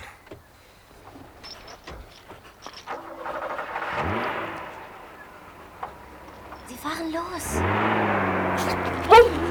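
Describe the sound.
A car engine rumbles and revs up as the vehicle drives off the property, with a few sharp clunks beforehand and a brief shouted word over the noise.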